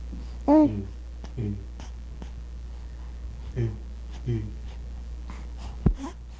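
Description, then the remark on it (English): Soft nasal breathing in short, irregular puffs, the first louder with a faint moaning hum, followed by quieter breaths and a few tiny clicks against a low steady hum. “This is all breathing. Mostly just breathing. It's sort of like a nasalized.”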